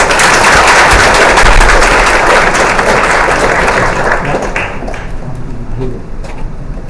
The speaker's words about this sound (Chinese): 好，我们掌声来欢迎他。